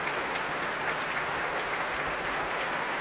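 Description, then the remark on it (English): A concert audience keeps up steady, dense clapping with dull low thuds of stamping feet mixed in, calling for an encore from pianist Alice Sara Ott. The applause is a continuous roar at even loudness, with no voices. “Well, from the stamping that you can probably hear, I know the audience here would like her to give us an encore, and I suspect that that is precisely what we're going to get.”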